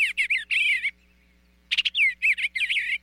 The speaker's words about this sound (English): But did you know that some bird songs contain secret messages? Like this sweet singing eastern bluebird.